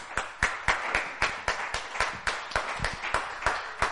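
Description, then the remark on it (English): An audience claps and cheers for the Lord after a hymn, sharp hand claps landing about four times a second in a steady, even rhythm over a bright wash of crowd noise and cheering, with no clear speech. “Give the Lord a cheer.”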